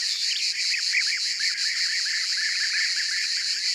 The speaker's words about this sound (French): On entend des guêpiers au loin. Ils sont toute une bande à virevolter en lançant leur cri typique. Cruic, cruic, cruic.